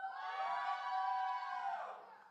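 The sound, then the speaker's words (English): A youth group screams and cheers together in a loud, sustained burst of shrill voices lasting about two seconds, then trailing off quickly. “If you're in the youth group, scream as loud as you can.”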